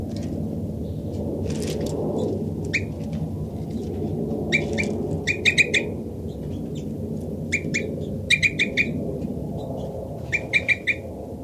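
Short, high flight calls from the bird labelled 5-9, one of three birds close together, ring out in quick clusters of two to four notes, repeated several times over a steady low rumbling background, with no one speaking.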